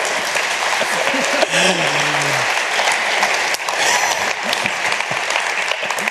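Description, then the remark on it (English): Sustained audience applause, a dense steady wash of many hands clapping at a fairly loud, even level, with a few faint voices and brief vocal sounds mixed in. “Now we have data with applause.”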